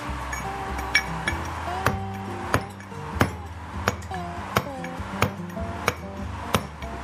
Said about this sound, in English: holding a mallet and a chisel, a drafting chisel. So I'm just going to show you the process and the sound